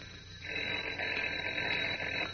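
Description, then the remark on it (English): Clark Kent's telephone rings in his apartment in one sustained, rattling burst lasting about two seconds, fairly loud, with no voices. “But as we continue now, Kent's phone is ringing again.”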